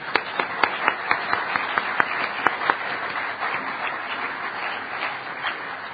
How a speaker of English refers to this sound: So let's have a round of applause for Bell Labs.